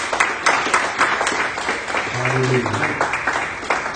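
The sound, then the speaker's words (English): An audience bursts into sustained applause as a hand clap of praise to God, a dense crowd of hand clapping with rapid irregular claps, while voices call out and a brief low tone rises underneath midway. “My brothers and my sisters, give God a hand clap of praise for his joy.”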